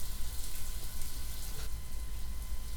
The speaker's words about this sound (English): Oh, he'll be done in the shower in a moment. He'll be out.